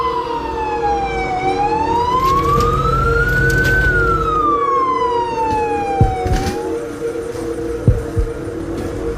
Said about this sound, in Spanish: Pocos minutos después, por las calles del pueblo, las sirenas de las ambulancias sonaban fuerte, anunciando que algo grave había ocurrido.